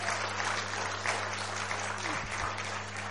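A crowd applauds steadily, a dense wash of many hands clapping at an even, fairly loud level for the whole stretch, with no voices standing out over it.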